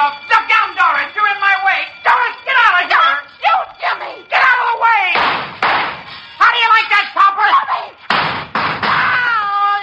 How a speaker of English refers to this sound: And then the shots.